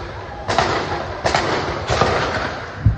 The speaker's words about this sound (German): Unablässig hören sie die Raketengeräusche und die Detonationen des Abwehrsystems Iron Dome.